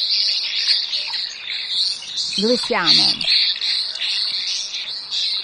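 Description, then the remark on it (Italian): A continuous, high-pitched cricket-like trill from a white-rumped swift (rondone cafro), a bird that nests in only one region of Italy, runs steadily throughout, buzzing in short pulsing bursts, while a person briefly speaks over it midway. “Allora, questi grillini li emette un uccello che da poco in realtà nidifica in Italia, da un paio d'anni, e nidifica solo in un'unica regione, che è il rondone cafro.”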